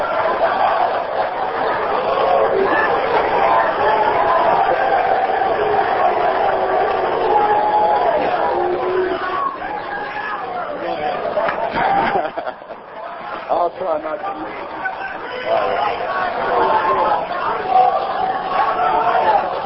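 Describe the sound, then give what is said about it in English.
An audience shouts and yells continuously during a speaker's talk, a loud jumble of many voices that dips briefly midway before swelling back up. “all this shouting, is that going on my time?”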